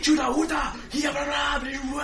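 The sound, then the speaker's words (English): Loud, angry shouting in unintelligible native tongues, a single voice bellowing in several rough bursts for about two seconds, as if imitating an irate crowd of villagers. “You get about halfway through the village and then, oh crap, all around you hear lots of irate shouting in native tongues.”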